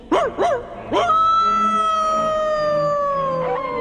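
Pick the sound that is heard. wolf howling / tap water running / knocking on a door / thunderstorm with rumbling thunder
wolf howling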